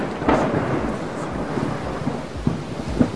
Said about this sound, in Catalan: O també quan plou, per exemple, doncs a la ciutat de Sabadell o Barcelona.